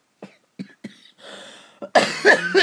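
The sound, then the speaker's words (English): A person coughs several times in short, sharp bursts, fairly loud, followed by a rougher, longer fit of harsh throat-clearing coughs with no talking, coughing up phlegm from an illness caught about a month earlier. “I had this bug about a month ago and I'm now coughing all the bleh up.”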